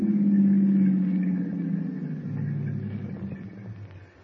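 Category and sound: vehicle, car pulling over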